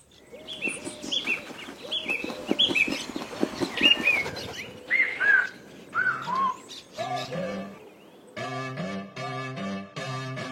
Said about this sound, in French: Et bien, sur cette logique, on va s'écouter un petit morceau de musique pour avoir le temps de bien réfléchir à ce qui vient d'être dit.